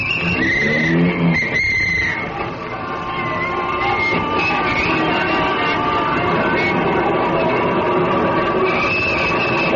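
A taxi cab pulls away heading up Broadway toward a theater off Times Square, with a brief high tire squeal at the start, then a loud, steady engine rumble and road noise carry on without a break.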